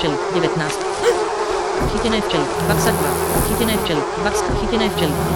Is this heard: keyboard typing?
no